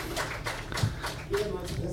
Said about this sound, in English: Give an applause